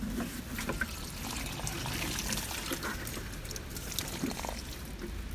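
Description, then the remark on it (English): Water pours steadily from a watering can into a six-year-old sumac tree in a pot, a continuous soft trickle and splash with a faint gurgle, fairly even in level throughout with no voices. “My mum put it into a bigger pot for me, and I'm just going to water this because I think it needs it, and the others are fine at the moment.”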